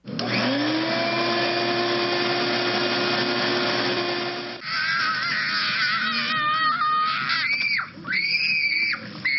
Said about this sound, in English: Heard a shop vac at 70, a kid screaming at 80, and then a motorcycle is 90 decibels.